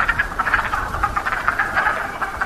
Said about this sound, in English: So we're hearing the calls of male wood frogs. So we sufficiently disturbed them, so they're going to be quiet for a little while.